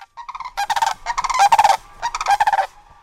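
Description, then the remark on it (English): Sandhill cranes, a pair with their colt, give loud, rolling, rattling calls in three or four overlapping bursts with no talking, the trilled notes rising and falling across about three seconds, while they dig for worms a few feet from a front porch. “are keeping a watchful eye on a crane couple and their colt.”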